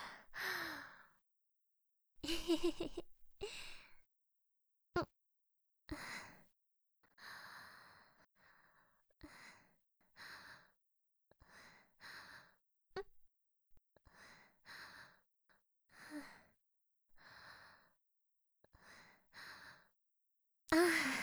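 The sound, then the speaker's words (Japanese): A string of breathy, yawning sighs, about fifteen in all, come at an uneven pace, some drawn out and some short and huffy, with quiet gaps between and no talking. “あくびかな。眠いのかも。”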